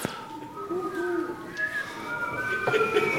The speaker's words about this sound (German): Ihr könnt ja nochmal so schön pfeifen. Ihr habt das gestern bei der Demo-Show so schön gemacht, so schön schief.